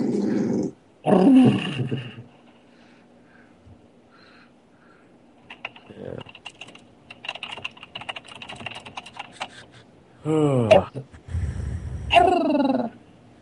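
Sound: dog growling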